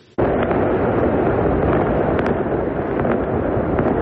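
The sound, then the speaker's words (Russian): Celebratory fireworks in the Gaza Strip, set off by residents marking the signing of a ceasefire agreement with Israel, boom and crackle in a continuous loud roar, with a few sharper pops standing out now and then over the dense, rumbling wash of sound. “В секторе Газа праздничный фейерверк.”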